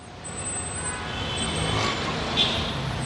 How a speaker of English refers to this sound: The midday traffic jam. More cars were sold than ever before, but also people had more money. They could take out their cars for more reasons. Now we have this mess.